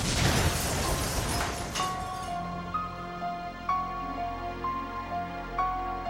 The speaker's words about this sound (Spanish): Se calculó la dirección de la explosión para determinar el tamaño de la bomba.